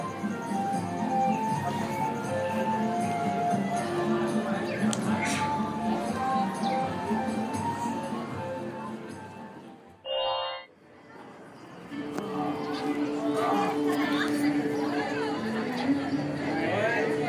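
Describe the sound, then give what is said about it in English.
Steady crowd ambience at Disneyland, in Frontierland next to Big Thunder Mountain Railroad: a dense hubbub of many overlapping voices and background bustle, broken briefly by a short lull with a squeaky, high-pitched sound before the chatter resumes. “Next to Big Thunder Mountain Railroad in Frontierland right now.”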